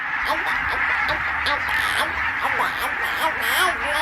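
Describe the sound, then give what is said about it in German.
A large flock of barnacle geese calling at once in the Elbe marshes in winter, a dense, continuous din of overlapping high, yelping honks with no pause, loud throughout. “Nonnengänse heißen dann”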